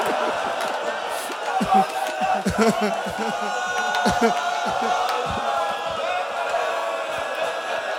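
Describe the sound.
A large crowd wails and weeps loudly in mourning for Zahra, many voices overlapping in a dense, continuous mass of sobbing cries that stays strong for the whole stretch.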